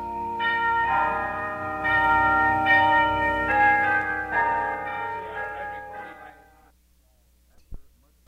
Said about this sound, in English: After much trial and tribulation, recordings were made. Of course, what you will hear now are test sample recordings made of the world-famous tubular bells.